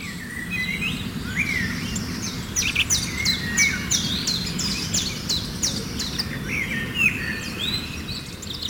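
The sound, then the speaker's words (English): Several birds chirp and trill in quick, overlapping bursts of high, bright notes, continuing steadily over a low, constant background hum of outdoor ambience. “Well, that is what you call nature's first symphony, the relaxing sounds of birdsong.”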